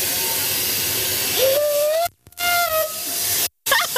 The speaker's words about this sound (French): Et puis on va s'apprêter à siffler. Vous avez le sifflet qui est là. Ok, donc là je vais pouvoir envoyer un petit coup de sifflet. Donc je prends, c'est ça ? Ouais. Je peux tirer ? On peut y tirer.